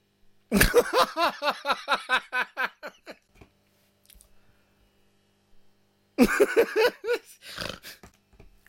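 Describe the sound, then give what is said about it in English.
A cat gives two bursts of quick, clipped meows, about ten in the first run and a handful in the second, loud, with a quiet pause between them. “The sound is meow.”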